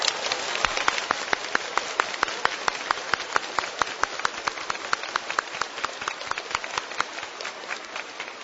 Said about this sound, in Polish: A zatem gorącymi oklaskami przywitajmy wszystkich słuchaczy Radia Maryja.